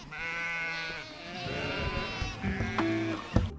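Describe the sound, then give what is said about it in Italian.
A Brianzola sheep, a Slow Food Presidium breed from the provinces of Lecco, Como and Monza in Italy, bleats loudly in a long wavering cry, followed by further overlapping bleats from other sheep, a small flock calling with no talking. “Ci spostiamo nelle province di Lecco, Como e Monza con la pecora brianzola Presidio Slow Food”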